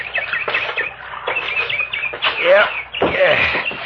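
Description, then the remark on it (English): A bird calls repeatedly in a busy stream of chirps and sweeping warbled notes, steady throughout, with louder swooping calls toward the end. “Hey, listen to that bird.”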